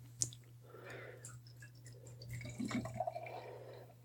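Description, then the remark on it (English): A 10% beer is cracked open and poured from a can: a sharp metallic click, then a soft, steady stream of gurgling, fizzing liquid with a few bubbly splashes, all faint over a low constant hum and no voices. “So let's go ahead and give her a pour.”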